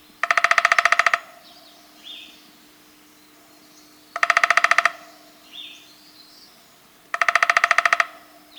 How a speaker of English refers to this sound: More likely, you'll hear the drumming of the downy.